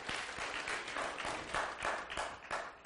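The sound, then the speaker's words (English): Sustained applause from an audience at Heritage Valley Bible Church, a dense, even wash of many hands clapping with occasional sharper individual claps standing out, steady in loudness throughout with no one speaking. “Now, really, it's you that need the applause, okay?”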